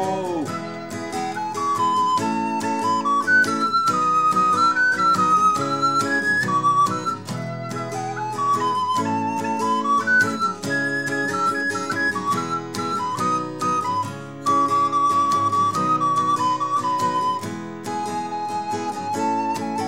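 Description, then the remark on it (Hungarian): A bright, steady whistled melody, imitating a blackbird's song, winds through a continuous loud instrumental music backing, with no spoken voices. “Odafenn a fenyőfa hegyén, mindig a legtetején, fütyül a fekete rigó, fütyül így, hogy élni jó.”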